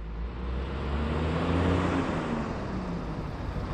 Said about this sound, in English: Summertime is busy at the Campbell Soup Supply Company near Sacramento. There's a line of trucks outside the plant, each carrying a huge pile of red tomatoes.